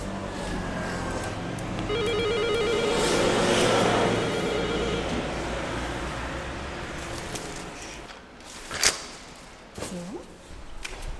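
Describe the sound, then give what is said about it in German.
A doorbell at a home's front door rings, a buzzy, rapidly pulsing electronic tone lasting a couple of seconds over steady background hum, followed later by a few sharp clicks and knocks. “Können wir hier schnell läuten?”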